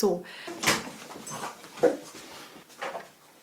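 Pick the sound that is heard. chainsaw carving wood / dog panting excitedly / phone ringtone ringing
dog panting excitedly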